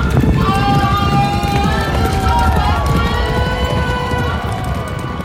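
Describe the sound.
Racehorses gallop over turf, a dense, steady pounding of hooves that stays loud throughout, with indistinct voices and crowd noise mixed underneath.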